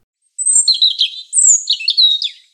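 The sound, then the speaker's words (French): A European robin, a small bird with a pointed beak and a red throat, sings two quick, high warbling phrases of thin whistles and twittering trills, clear, with a brief pause between them and no other sounds. “Cet animal est le rouge-gorge.”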